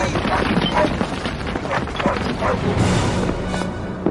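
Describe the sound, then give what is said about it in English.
A dog named Shadow barks repeatedly amid a dense, loud wash of rumbling and crashing noise from a slide by cliffs, with voices partly audible in the chaotic mix. “Shadow's barking is causing a slide.”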